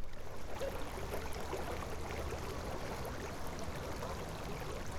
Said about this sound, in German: So, bei dem Geräusch könnte man denken, es wäre der Rhein. Es ist aber ein Springbrunnen, dient aber trotzdem gut zur Orientierung.